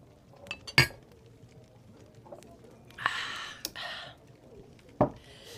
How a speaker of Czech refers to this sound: Tak se ještě napiju. Ťuknem si. Napí se. Tak na to, Ťuknem. Co přijde. Na léto. Na léto.